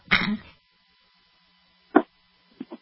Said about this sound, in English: I had to hit the cough button, excuse me.